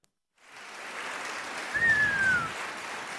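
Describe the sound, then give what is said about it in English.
A crowd breaks into steady applause, a dense wash of clapping that swells briefly in the middle, with a short whistle rising above it before the clapping continues. “Giving y'all a round of applause.”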